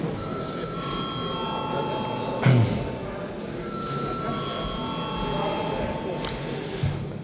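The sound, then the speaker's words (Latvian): A parliament voting bell rings steadily for several seconds before deputies vote on a bill, a sustained electric tone over a low murmur and rustle, with a couple of brief thumps. “Lūdzu zvanu.”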